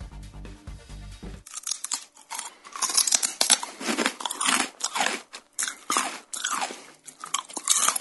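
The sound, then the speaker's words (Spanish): Crisp crunching and chewing of food with the teeth, with repeated bites and grinding in an irregular rhythm, preceded by a brief low musical tone at the start. “Cortar, desgarrar, triturar, masticar y moler son las tareas que se nos vienen a la cabeza cuando pensamos en los dientes”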